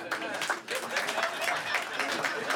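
An audience claps in a steady, moderately loud patter for a few seconds, the applause thin and somewhat tentative rather than a full ovation, with no clear voices standing out.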